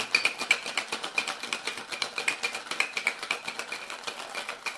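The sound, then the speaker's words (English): A cocktail shaker holding whiskey, grenadine and freshly squeezed lemon juice rattles steadily with ice, a fast, even rhythm of bright clattering pulses lasting several seconds, with no one speaking over it. “3/4 of an ounce freshly squeezed lemon juice. Shake that up.”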